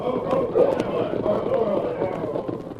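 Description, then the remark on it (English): A dense, continuous drumming of many horses' hooves galloping together, four men on horseback, a steady loud rumble of overlapping beats with no clear rhythm, and indistinct voices murmuring underneath. “Me hear other hoofbeats, many horses.”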